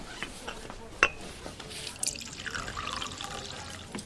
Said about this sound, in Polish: Herbaty niech Lucjan naleje. No już nalewam.